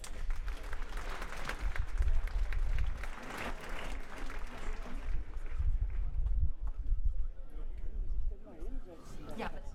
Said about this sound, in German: Ein Applaus bitte.